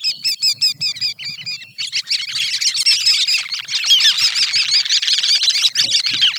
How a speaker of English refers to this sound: You can listen for a twittering series of soft, squeaky wick-wick calls.